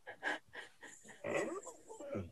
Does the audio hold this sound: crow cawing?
no